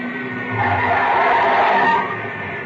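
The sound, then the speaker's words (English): Car tires skid with a harsh, sustained screech that swells loudly for about a second and a half, then eases off, with no voices over it; a car on the airport road as another car comes in. “There's another car coming in.”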